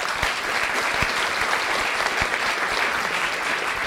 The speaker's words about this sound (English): And we also want to thank everyone in our live audience for participating in the program. Give yourselves a nice round of applause.